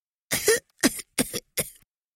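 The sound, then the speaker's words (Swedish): Four short, raspy coughs in a steady sequence, moderately loud, each a quick throaty burst. A human voice seems to be acting out a little piglet's cough, with no talking. “Istället satte han sig på en stubbe och hostade lite.”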